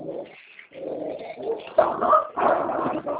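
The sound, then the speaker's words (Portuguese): A small female dog barks and whimpers, mixing sharp yaps with high whines in a restless, almost continuous stream over a few seconds, with no one talking. “Tem uma cachorrinha aqui, ela assim.”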